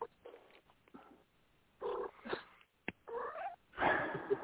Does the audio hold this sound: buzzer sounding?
no